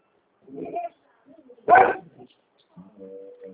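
dog barking

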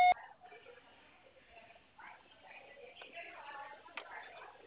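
voicemail beep

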